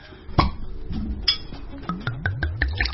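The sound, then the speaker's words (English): One sharp glassy clink of glasses of red wine near the start, followed by a run of quick, lower-pitched knocks and rattles, with no one speaking. “That's our red glass of wine. We are popping it here.”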